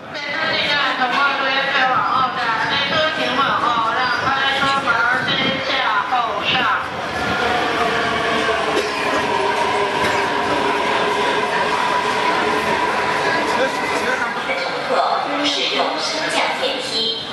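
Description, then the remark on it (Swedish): A subway train runs steadily and loudly, its constant rumble layered with shifting metallic whines and squeals from the wheels and motors throughout. “När han vek av från gatan och gick ner i tunnelbanan så såg han i ögonvrån hur två uniformerade poliser närmade sig från höger.”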